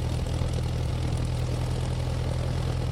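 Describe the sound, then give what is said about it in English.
A propeller airplane flying south over the open sea towards Africa; its engine drones steadily without pause, a low, dense hum with strong rumbling bass tones and a broad hiss above, holding constant loudness throughout. “The plane sets course south for the open sea towards Africa.”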